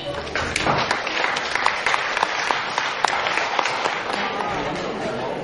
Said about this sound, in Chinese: 谢谢各位掌声鼓励